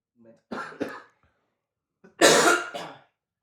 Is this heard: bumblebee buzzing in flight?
no